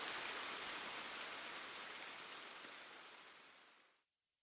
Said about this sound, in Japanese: 雨の音が、今度は拍手の音に聞こえた。いつまでも鳴り止まない拍手だ。